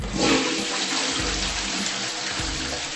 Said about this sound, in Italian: E odio tirare lo sciacquone.